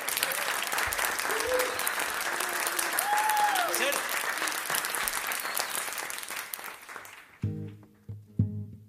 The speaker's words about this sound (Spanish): Un pedazo de aplauso